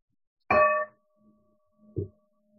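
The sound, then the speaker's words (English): A bell is struck once to begin a recitation of the five remembrances, with a bright, clear metallic tone whose ringing hum lingers, followed by a second, softer strike about a second and a half later. No one speaks. “We'll ring a bell again at the end.”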